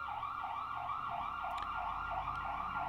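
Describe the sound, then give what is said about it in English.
An ambulance siren wails in a rapid, rising-and-falling yelp, loud, passing by with a low traffic rumble beneath it and no one speaking. “We'll just let this emergency vehicle go by.”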